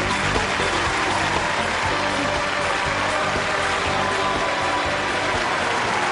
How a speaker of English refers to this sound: Did you hear the very beginning, though, when Simon Cowell got booed? Yeah, yes, it was wonderful.